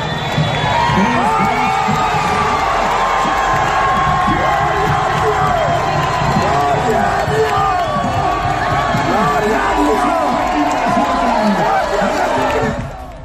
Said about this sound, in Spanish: Por ejemplo, así lo vivieron las 6.000 personas que abarrotaron ayer la Plaza Mayor de la capital.